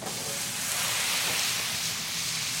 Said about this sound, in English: I went into the pasta pot. I took a ladle of water, and I threw it in the pan with the sausages and the garlic and the oil.